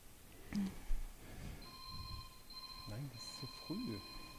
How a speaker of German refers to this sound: Das Telefon, das klingelt immer, obwohl es noch gar nicht dran ist.